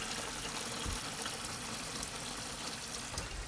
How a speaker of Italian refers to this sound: Da questa cannella, come senti, sgorga l'acqua che serve per annaffiare.